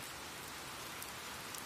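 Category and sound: nature, light rain falling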